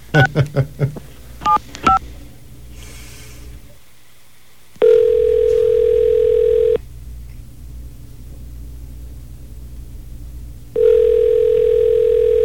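A quick burst of touch-tone dialing beeps, then a steady low ringing tone on the line, sounding for about two seconds, pausing for several seconds, and sounding again. Nobody speaks.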